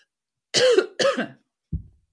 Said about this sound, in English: So you get to hear my cough and my cold and all the good things.